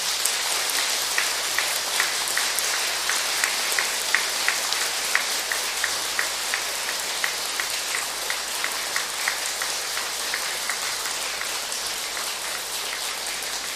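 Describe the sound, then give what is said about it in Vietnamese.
A crowd applauds loudly and steadily for over ten seconds, a dense, hissing wash of many hands clapping, with individual sharper claps popping out of the texture. No one speaks. “Nhân dịp này, quý vị hãy cùng tôi dâng cao tràng vỗ tay thật lớn.”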